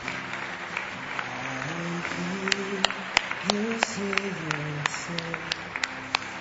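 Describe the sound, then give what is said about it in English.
A crowd applauds steadily for several seconds, a dense wash of clapping with sharper individual claps popping out, while low sustained musical tones shift underneath. “call you publicly in front of a group of men and women who love you and will applaud for the decision you're making.”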